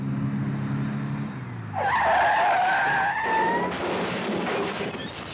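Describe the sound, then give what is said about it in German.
A car engine drones low, then tires shriek in a long, loud skid that slides down in pitch, followed by a harsh burst of noise like a crash as a car races into the end of a traffic jam. “Ein Auto rast in das Ende eines Staus, nicht selten mit Todesopfern.”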